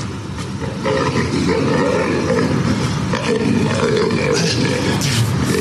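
In a played video, a lion being carried down the street by a woman roars loudly and continuously for several seconds, a deep, rumbling growl that swells and rasps with a noisy, slightly distorted background throughout.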